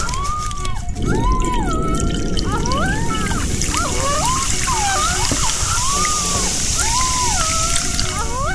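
Water sloshing in a glass bowl gives off eerie, swooping tones that rise and fall repeatedly over a steady watery hiss, sounding almost like whale calls, with no talking.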